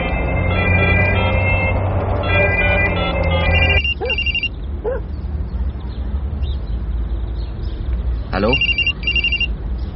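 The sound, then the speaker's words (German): A mobile phone ringtone chirps in repeated bright electronic bursts, loud at first, then returning in shorter intermittent rings over a low rumbling background with faint voices. “Er vergisst doch immer sein Handy einzuschalten. Dann versuche ich's nochmal.”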